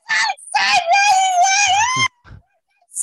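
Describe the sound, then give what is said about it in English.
A person lets out a loud, sustained high-pitched scream lasting about two seconds as a comedic impression of Alex Stein introducing himself, followed by a brief pause and a faint breathy sound. “So it's Alex Stein, and that's like that's my actual impression of you. Like I'm just going to like scream into the because I can't do what you do.”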